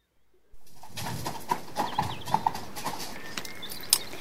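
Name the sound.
horse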